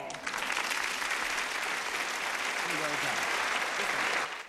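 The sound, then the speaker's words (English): A crowd applauds steadily at a music festival prize-giving after the winner of the woodwind category is announced, a dense, even patter of many hands clapping that holds at a constant level for about four seconds before stopping abruptly. “Jackie claps happily.”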